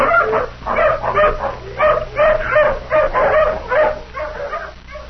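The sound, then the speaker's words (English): A tracking hound, given a shirt to smell, barks and yelps while following a scent, in a rapid, steady series of about a dozen loud bursts, with a faint low hum underneath and no talking. “Come on, hound, sniff. Take another smell of this shirt.”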